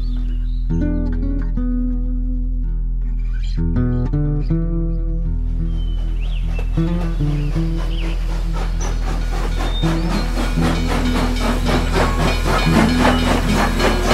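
A steam train bound for Santa Margaret hisses at a small wooden station. Low rumbling tones open the sound before a loud, steady wash of escaping steam builds and fills the second half. No one speaks.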